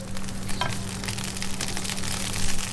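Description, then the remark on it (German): Steady sizzling of food frying in a pan as a Brazilian lunch of rice with beans is cooked, a continuous crackling hiss with occasional scraping bursts from stirring, and a low steady hum underneath; no one speaks. “Als ihr Meeting beendet ist, kocht Gliceria das Mittagessen.”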